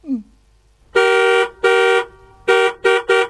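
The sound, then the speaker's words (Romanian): A car horn honks loudly in five blasts while the car stands still: two long ones, a pause, then three shorter quick toots, after a brief voice-like sound at the start. “Stăm pe loc, pericolul a trecut și dumneata claxonezi?”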